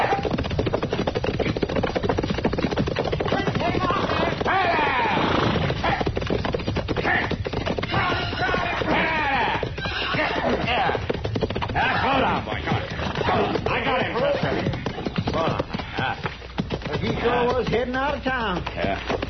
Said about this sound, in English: Well, somebody's sure riding up Front Street awful fast, ain't they? Yeah. That's a runaway horse, Chester. Come on, let's catch him.